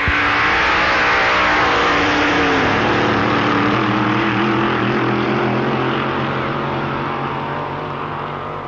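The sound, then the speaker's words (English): A powerful drag racing engine of a big car built in England to the American pattern roars loudly and continuously as it tears down the strip to win a match race in 10.28 seconds at close to 150 miles per hour, its deep throaty drone holding steady before fading slightly toward the end, with no voices. “Alan pulled back Deuce's lead to slam home the winner, the best time ever recorded by the big car, 10.28 seconds”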